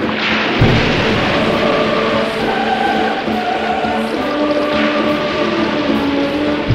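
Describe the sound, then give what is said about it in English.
A loud, steady roar of rushing water as the waters of the Red Sea split into two, surging without pause for several seconds, thick with low rumbling and a few sustained tones humming beneath the torrent. “Suddenly, the waters of the Red Sea split into two.”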